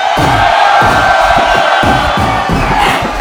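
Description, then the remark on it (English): A live concert crowd at Fitzgerald's in Houston, Texas, cheers and shouts in a loud, continuous roar while a live album is being recorded, with a steady pulse of low thumps running underneath throughout. “Right about now, all the bus smokers in Houston, make some noise.”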